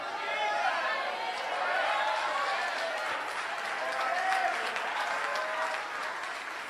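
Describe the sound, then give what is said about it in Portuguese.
An audience applauds steadily throughout, a dense wash of many hands clapping at an even level, mixed with scattered voices and cheers from the crowd. “Você não entendeu, as palmas foi pouca, o glória a Deus foi pouco.”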